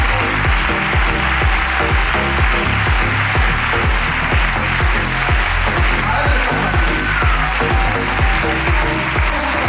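Loud, sustained audience applause fills the whole stretch, a dense wash of clapping that never lets up, with a steady thumping beat pulsing underneath.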